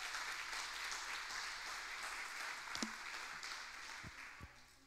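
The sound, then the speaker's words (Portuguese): An audience applauds together, a steady wash of many hands clapping that holds for several seconds, with a few sharper individual claps standing out near the end as it begins to thin. “Dá uma salva de palmas se você está comigo.”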